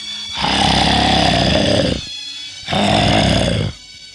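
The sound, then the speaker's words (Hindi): Two loud, rough roars of the tiger Pilu, heard from afar: a long one followed by a shorter one after a brief pause, each starting and stopping abruptly with a growling, buzzing tone. “पीलू बाघ की आवाज थी वो, पीलू बाघ की दहाड़ थी वो।”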